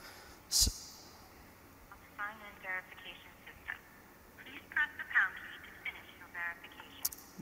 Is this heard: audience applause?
no